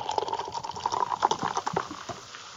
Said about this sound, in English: And you know what? I'm actually going to pour it in the glass.